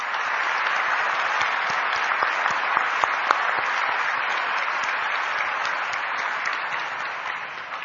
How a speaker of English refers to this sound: A round of applause to the instrumentalists.